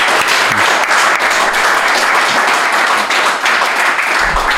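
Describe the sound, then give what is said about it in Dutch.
A crowd applauds steadily, dense overlapping clapping holding at a loud, even level from start to finish. “Mag ik sowieso al, dat voelt altijd lekker, en even ontlading, een applaus”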